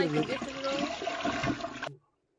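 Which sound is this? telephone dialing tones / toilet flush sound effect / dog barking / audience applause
toilet flush sound effect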